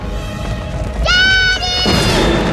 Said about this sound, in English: The earth splits. In this time of the clash of continents, a great earthquake split the land.